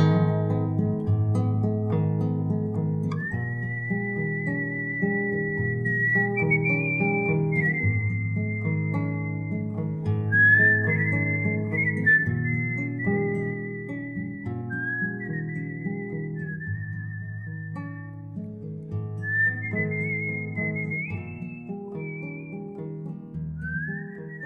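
A slow, mournful human whistle carries a drawn-out melody high above a steady bed of chordal instrumental accompaniment, with long sustained notes and gentle slides between them.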